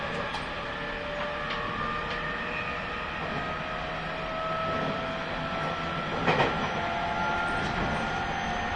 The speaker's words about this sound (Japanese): いつもご利用くださいましてありがとうございます。上り普通電車の上野行きです。これから先、アビコ、柏、松尾の順に止まります。次はアビコです。